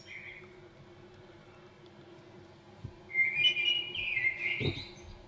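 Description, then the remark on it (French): A Eurasian blackbird sings fluty, whistled phrases, a brief note at first and then a fuller warbling run near the end, over a steady low background rumble. “C'est encore le merle, écoutez comme il chante bien.”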